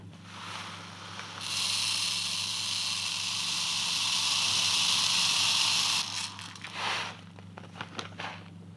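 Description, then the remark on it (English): Tiny glass beads, 2 millimeters in diameter, pour into the brain case of a skull to measure its volume, in a steady, bright hissing rush for about four seconds, then trail off into scattered light rattles and clicks. A low hum runs underneath throughout. “Yeah, I have these little tiny glass beads. They're 2 millimeters in diameter, and I'm going to pour them into the brain case until the inside of the skull is full, and then pour the beads out, and I'll measure the volume from the graduated cylinder.”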